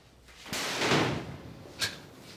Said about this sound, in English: Goes into the locker room to find Dan there. They each strip off their shirts, but when Dan goes to his locker, he slams the door, making Malik laugh.